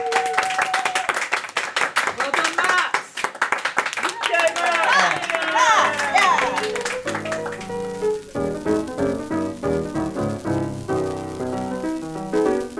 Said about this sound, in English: Give all your listeners a round of applause.